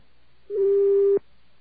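A single steady electronic telephone tone on a line reached by dialing a number with a special FEMA government area code, held for under a second and ending abruptly, heard clearly on its own with no voices, prompting for touch-tone input.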